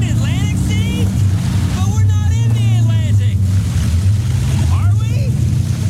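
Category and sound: vehicle, motorboat engine on water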